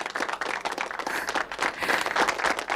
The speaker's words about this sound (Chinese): 掌声响起。